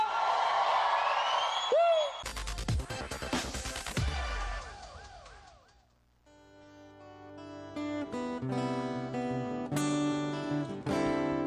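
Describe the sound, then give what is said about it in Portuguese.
A large crowd shouts and cheers loudly for several seconds, with rising whoops, in answer to a call to the children of the Virgin Mary to shout, before the noise fades and music with singing takes over. “Quem é filho da Virgem Maria aí, dá um grito!”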